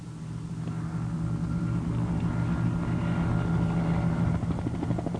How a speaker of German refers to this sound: Endlich kommt der Rettungshubschrauber. Aber er ist gar nicht mehr nötig.